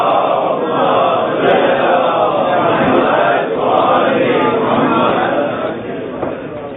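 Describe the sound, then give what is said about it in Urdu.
A large crowd recites salawat loudly in unison, a dense, sustained wall of voices that swells in waves and tapers off slightly toward the end. “ہمارے دیگر نعرے صلوات, ایک اور بلندر صلوات پڑھتے ہیں.”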